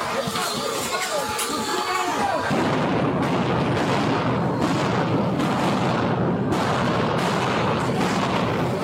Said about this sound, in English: Those are flashbangs.